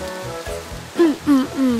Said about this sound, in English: Come on. It's pouring. You'll be soaked to the bone.